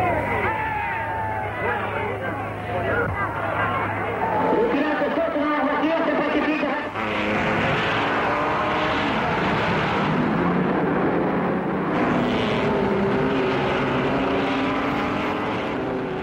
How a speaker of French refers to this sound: Cette ambiance, je vous propose de l'écouter dans une archive. Voilà ce que ça donnait ce samedi 11 juin. Il est précisément 16h20 sur le circuit du Mans.